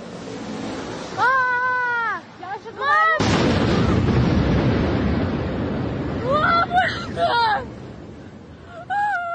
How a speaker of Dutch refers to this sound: Ook in Moskou is er een wolkenkrabber geraakt. Dat gebeurde zondag. Dat was een flinke explosie.